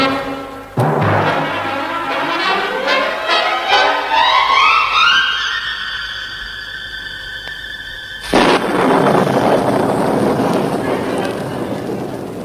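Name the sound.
thunder and rain storm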